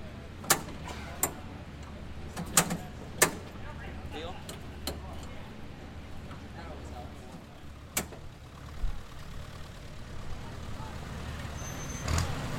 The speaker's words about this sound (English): The tractor was soon running, and the profession snaked down the midway at 5 miles an hour, to much fanfare.